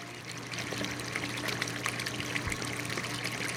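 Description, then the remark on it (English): Clean salt water pours and splashes steadily into one of 15 aquarium tanks that hold large reptiles, over a constant low mechanical hum of a pump running, with no one speaking. “Clean salt water is constantly pumped into the 15 tanks that hold the huge reptiles.”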